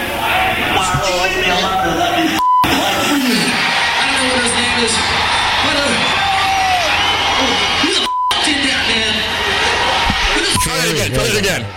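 A loud, dense death metal song played on a radio show, with harsh growled vocals over distorted, wall-like instrumentation, briefly cut twice by short censor beeps.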